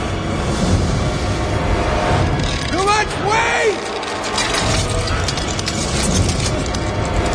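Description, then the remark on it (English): Glass cracking under Jason's weight as he braces over a hole in it, gripping the glass with his bare hands in snow: a few high creaking squeals bending in pitch over a steady, loud rushing noise, with brittle crackles scattered through. “The glass is breaking!”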